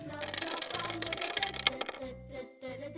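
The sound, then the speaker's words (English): Dominoes clattering together in a busy, continuous jumble of sharp clicks and knocks, fairly loud, tapering off slightly near the end. “Some dominoes.”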